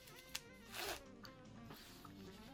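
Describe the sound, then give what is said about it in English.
A small click, like a button coming undone, then a short rasping zip of trousers being unzipped, quiet, with no talking. “You never said that I couldn't undo your button on your pants.”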